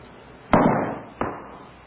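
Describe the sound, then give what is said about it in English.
At Cambridge University, a heavy object is let go from a hand and hits the ground with a heavy thud. About two-thirds of a second later its echo follows as a softer repeat of the same impact, then quiet. “What you heard, of course, was an echo.”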